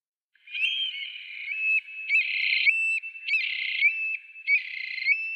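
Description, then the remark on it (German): A nocturnal bird calls in a series of about four high, whistled, slightly buzzy notes, each held for around a second with short gaps between, clear with no voices. “Und damit leiten wir zum Bird of the Day über und ich spiele ihn ein für euch.”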